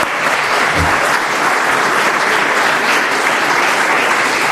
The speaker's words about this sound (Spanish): Acá veo algunos diputados como el que recuperamos de casi de la muerte de Eduardo Amadeo. Un aplauso para Eduardo Amadeo.